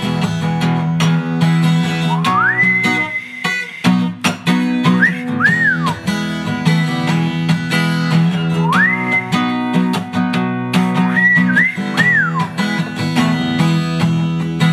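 Someone whistles a bright tune over a steady musical backing with a beat, gliding up to long held notes and then short wavering ones, the same phrase played twice.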